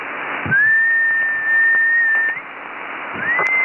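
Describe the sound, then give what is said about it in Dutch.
A steady, sustained whistle tone sent over an amateur radio band at 5 watts holds one pitch for nearly two seconds, breaks off, then returns briefly, loud over a hissy background of noise. “Dat doe ik normaal nooit, ik heb er één kom, hè, een fluit op je band.”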